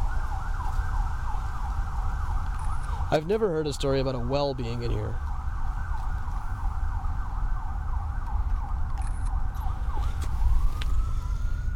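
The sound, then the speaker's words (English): A wailing emergency siren rises and falls continuously in the distance over a steady low rumble of city traffic, with a man's voice briefly talking over it. “There's a very interesting dichotomy going on here of the sounds of the city off to our very far right, where you hear sirens and planes and cars.”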